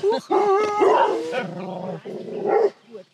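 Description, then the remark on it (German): Dogs bark and yelp loudly and excitedly at someone arriving: an almost unbroken burst of overlapping, high-pitched, territorial barks that drops off briefly near the end. “sind unsere Hunde schlecht erzogen? Nein, sie sind territorial.”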